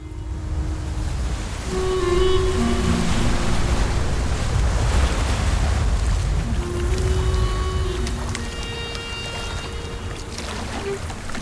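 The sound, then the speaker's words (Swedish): Heavy waves surge and slosh around a fishing boat on Lake Vättern in November 1966, in a hard wind, making a loud, continuous wash with a deep low rumble. Faint tonal creaks or hums drift in and out, and no one speaks. “Vinden är hård och sjön går tungt.”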